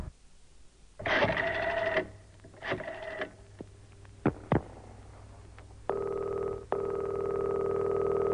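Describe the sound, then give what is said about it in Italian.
A public telephone being dialed: a few buzzing mechanical whirs and sharp clicks, then a steady, fairly loud electronic ringing tone that continues to the end. No one speaks. “Là c'è un telefono pubblico.”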